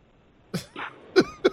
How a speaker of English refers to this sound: Sound like you're having some labored breathing.